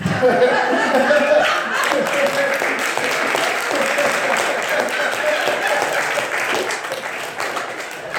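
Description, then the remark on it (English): A sustained round of applause from an audience for the ladies, dense steady clapping lasting several seconds with some laughter and chatter mixed in, gradually easing toward the end. “Now, I want you guys to give a round of applause to the ladies that made these ugly men that are standing up.”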